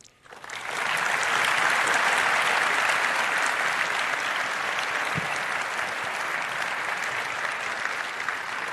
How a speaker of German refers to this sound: Vielen, vielen Dank für diesen spannenden Talk. Eine Runde Applaus bitte nochmal.